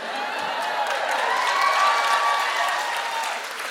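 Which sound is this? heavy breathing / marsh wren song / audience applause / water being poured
audience applause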